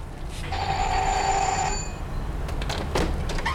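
A house doorbell rings once with a steady, bright electric tone lasting over a second, then stops, leaving a few soft clunks and rustles over a low background hum.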